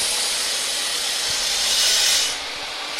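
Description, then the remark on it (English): A woodcutting machine, started up by students to sculpt a ballista prototype, runs with a loud, steady, hissing roar. Its sound swells brighter for a moment, then drops back to a slightly lower, even whoosh, with no voices. “Here, Rosecrans fires up the woodcutter they're using to sculpt the ballista.”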